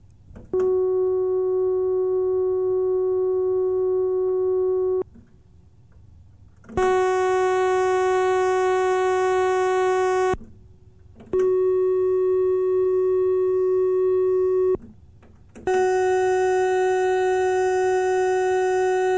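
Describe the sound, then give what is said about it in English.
Four sustained synthesizer notes at the same pitch and loudness, each a few seconds long with short gaps, switching between mellower wave shapes and bright, buzzy sawtooth and pulse waves, demonstrating differences in timbre. “Note that both the sawtooth and pulse waves sound somehow brighter.”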